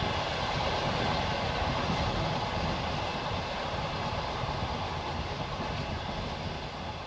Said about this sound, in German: Es ist heiß, als der Zug in den Bahnhof von Dniepropetrovsk einfährt.